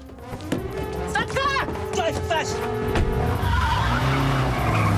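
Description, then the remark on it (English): A taxi speeds away from outside a casino in Paris with screeching, skidding tires, sharp squeals rising over a steady engine roar that continues throughout. “As it speeds away, they glance out of the rear window.”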